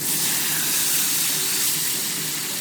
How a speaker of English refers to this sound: From the kitchen, you can hear the bustle of dishes being prepared and a comforting aroma in the air.